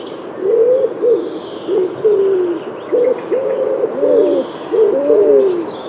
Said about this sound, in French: Sur les toits d'une mosquée à côté de la pharmacie Sambo, kilomètre 5, ces pigeons viennent régulièrement s'y poser après avoir picoré les grains étalés par des commerçants.